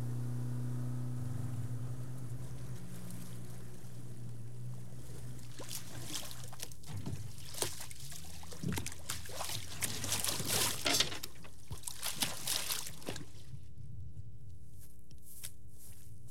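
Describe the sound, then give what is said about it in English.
A boat's low motor drone runs beneath repeated splashes and slaps of choppy water against the hull as it heads down the York River from Gloucester Point to Goodwin Island on a breezy, warm day, rising and falling irregularly before settling back into a steady engine hum. “All right, we're heading out down the York River from Gloucester Point over to Goodwin Island to go check out some ghost forests on the island.”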